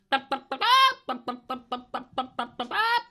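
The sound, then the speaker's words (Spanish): A mother hen arrives, clucking in a quick, steady run of about a dozen short clucks, with a longer drawn-out squawk near the start and another at the end. “Mamá gallina, mamá gallina. Ahí viene.”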